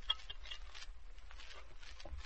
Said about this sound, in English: All right, get your glasses. Drop in the ice. Open the bottle.